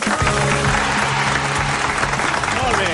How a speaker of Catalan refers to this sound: Bueno, un fort aplaudiment pel Barça.